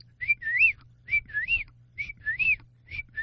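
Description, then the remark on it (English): A person whistles an imitation of a whippoorwill's song, repeating the three-part rising and swooping phrase about four times in a steady rhythm, clear, with a faint low hum beneath. “Let me see if I get that whistle going here.”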